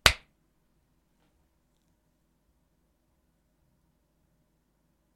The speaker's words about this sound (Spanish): Hacemos pausa para hacer claqueta. Espera, doy otro aplauso y ya puedes continuar, ¿eh?